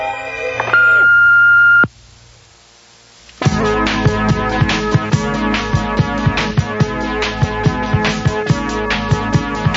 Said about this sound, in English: Wait for it now. Here comes the beep.